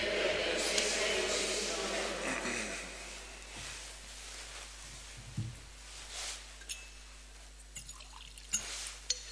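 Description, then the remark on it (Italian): A soft, faint trickle of water being poured into wine in a chalice, tapering off after a few seconds, followed by a few small clinks and light handling sounds over a low steady hum. “L'acqua e vita al vino sia il simbolo in nome della vita divina.”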